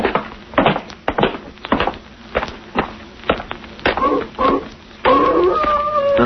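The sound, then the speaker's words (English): A wolf yips and barks in a quick, uneven run of short calls, then breaks into a long, wavering howl that holds to the end, loud, with no talking. “Sounds like a wolf. That ain't what the wolves sound like down in California.”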